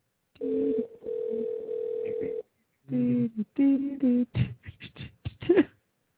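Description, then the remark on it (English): An outgoing phone call rings back once with a steady, two-second electronic tone heard through the earpiece, goes unanswered, then falls silent briefly before a recorded-sounding voice begins talking. “Why do people not answer their phones?”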